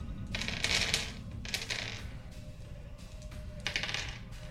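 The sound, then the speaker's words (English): Dice, including stress dice, rattle and clatter onto a hard surface in several quick bursts, a bright rolling sound over a low steady background hum, with no one talking. “Make the roll.”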